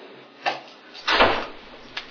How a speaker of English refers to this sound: Okay. Sound of the slamming door, that's always good.